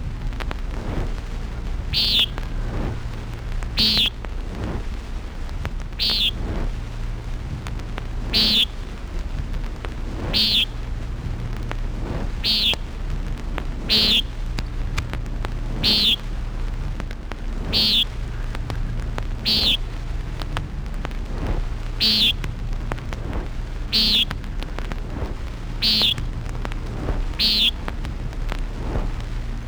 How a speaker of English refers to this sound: Common Nighthawk.